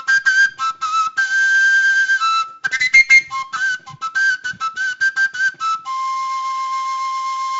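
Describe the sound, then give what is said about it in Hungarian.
A shrill folk shepherd's whistle flute with finger holes, played mainly by Moldavian Csángós while grazing animals, plays a quick, chirping, birdlike melody of short staccato notes, then settles into longer sustained high tones, with no voices. “A madarak csiripeléshez hasonlít, ugyanaz a hangállománya van a hangszernek.”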